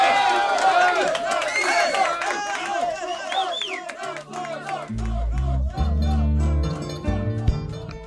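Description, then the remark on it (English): A large indoor crowd erupts in loud, wild cheering and shouting with scattered clapping, sustained throughout, as low musical tones begin swelling underneath midway through. Detainees in a detention center canteen cheer a call for a hunger strike, in the radio drama The Promised Land. “With wild cheers and applause in the detention center canteen, we've reached the end of the 11th episode of our radio drama series, The Promised Land, a story of African migration to Europe.”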